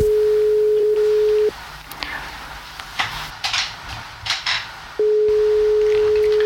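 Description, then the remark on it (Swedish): A steady electronic ringback tone hums for about a second and a half while someone phones their mother, breaks off into a few soft clicks and rustles, then the same monotone beep resumes and holds to the end. “Nu ringer jag henne.”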